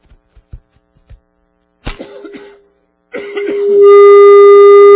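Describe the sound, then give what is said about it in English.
A few soft clicks, then two rough bursts of coughing from a person, the second trailing into a loud, steady, buzzing tone that swells until the end. “I thought I was doing good by getting away from my cough.”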